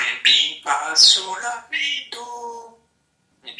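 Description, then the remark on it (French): A parrot gives a run of harsh, raspy squawks in quick succession, some with a voice-like quality, then pauses briefly before one last short call. Loud. “Parmi les oiseaux dont les talents d'imitateur sont les plus extraordinaires, il y a bien sûr les perroquets.”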